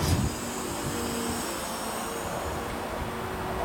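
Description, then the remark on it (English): A crane extending its boom gives off a steady, continuous mechanical drone with a faint whine, fairly loud. A brief louder thump opens the sound, and no one speaks. “Sound of the crane extending its boom.”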